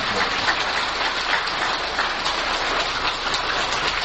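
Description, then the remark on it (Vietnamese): Dense, sustained applause from a large crowd at a Buddhist gathering, given in thanks, fills the space with an even, rain-like crackle of many hands clapping at once, steady and fairly loud throughout with no voices. “Xin quý vị cho một tràng pháo tay rất lớn để chúng ta cảm ơn Chúa.”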